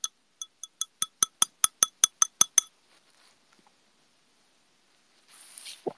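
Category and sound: household object, glass clinking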